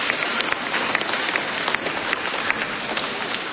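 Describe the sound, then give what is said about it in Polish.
Steady applause from a crowd welcoming pilgrims from the parish of St. Maximilian Maria Kolbe in Dąbrowica, a dense, continuous patter of many hands clapping at an even level for several seconds, with no voices over it. “Brawa dla nich.”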